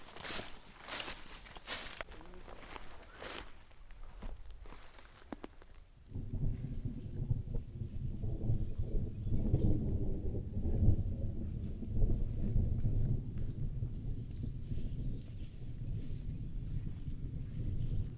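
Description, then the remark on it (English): Crunching footsteps of someone walking give way to a deep, sustained rumble of thunder as the sky grows cloudy, rolling on steadily for several seconds, low and heavy, with no voices. “Walking along and I can hear thunder rumbling.”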